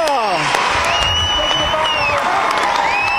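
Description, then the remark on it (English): A large concert crowd roars continuously, with cheering, whistles and high shouts layered over steady applause, loud and dense throughout, yelling for an encore after the performers have left the stage. “They all said their goodbyes, bye-bye, and they left the stage and listened to the encore yell.”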